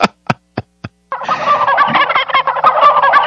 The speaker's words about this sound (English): No, I don't like that sound. I never liked chicken coops or chicken yards. I don't like it. They're hysterical. They sound like the League of Women Voters before a Democratic caucus.